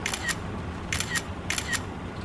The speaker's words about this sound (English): Oh, look, get the camera out. We'll need some shots of that. All right, one thing at a time. Give me a second. Okay.